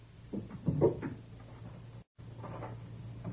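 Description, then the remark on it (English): A cabinet drawer is pulled open with a short run of scraping knocks and rattles over a steady low hum, then a brief dropout and a softer shuffling sound. “And the drawer of that cabinet over there.”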